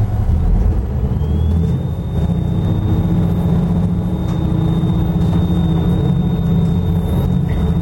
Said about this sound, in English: As we kicked on our diesel generator, you see it says the generator's online. We can put the boat ahead, and now we're running on our diesel generator.